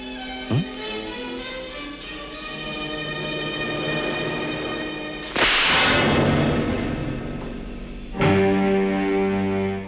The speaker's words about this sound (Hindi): ये थप्पड़ मैंने आपको इसलिए मारा